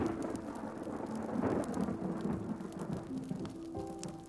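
A thunderstorm rumbles in the distance, low thunder rolling steadily beneath a constant hiss of falling rain, with scattered drops pattering nearby. No voices.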